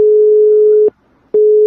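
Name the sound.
telephone call tone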